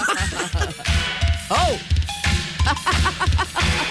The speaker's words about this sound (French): Là, t'as la cloche à vache qui s'en vient, là.